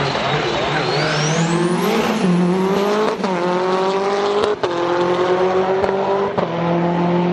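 A loud Lancia Integrale rally car engine revs hard and accelerates up through the gears, its pitch climbing and dropping sharply at several quick shifts, with a high whine riding over the roar.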